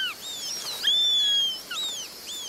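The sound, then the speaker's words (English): A Eurasian sparrowhawk call from a birdwatching video game set on a Mediterranean island: a series of thin, high, whistling cries that overlap and sweep up and down, moderately loud, with no voices. “As you traverse the animated ecosystem, listen for the calls of over 50 birds, like the Eurasian sparrowhawk.”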